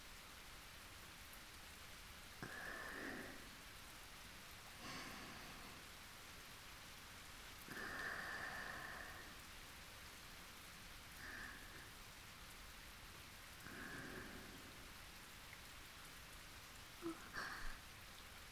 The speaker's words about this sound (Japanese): 気づいたら雨が降って焚き火の火消えちゃったね。